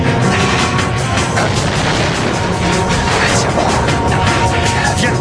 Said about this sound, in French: Le bateau a explosé.